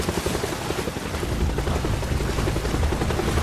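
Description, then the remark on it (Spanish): A loud helicopter rotor thumps in a fast, steady chop over a dense roar of engine and wind noise, arriving during a storm, holding at a constant heavy level with no voices. “Oímos el fuerte sonido de un helicóptero.”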